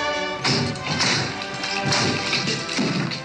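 A series of firm knocks on a door, four or five heavy raps spaced irregularly, sounding close and fairly loud over a steady, humming tonal background, with no one speaking.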